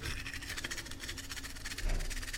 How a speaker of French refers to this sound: D'habitude, je me brosse les dents.